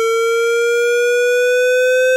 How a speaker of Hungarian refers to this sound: Csiripelés pont pont pont. Csiripelés generálása.